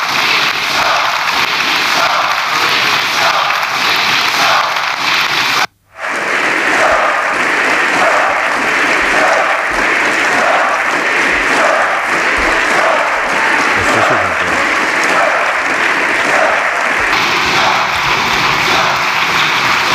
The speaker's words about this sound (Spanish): Los gritos de dimisión, dimisión a un lado del hemiciclo, los aplausos cerrados para el presidente Sánchez al otro lado y los socios entre medias, sin decantarse ni por una cosa ni por otra.